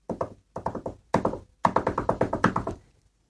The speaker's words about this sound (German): Gerade als es sich alle gemütlich gemacht hatten, erklang ein erneutes Klopfen.